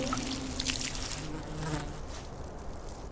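A steady, low buzzing of bees hums continuously throughout, with a faint wavering drone and no voices.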